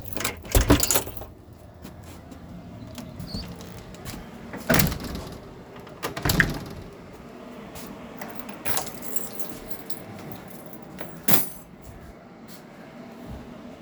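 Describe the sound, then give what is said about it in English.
Metallic clicks and clunks of a door lock being worked, with a few sharp bursts spaced over several seconds and quiet rustling in between. “The door lock makes a sound.”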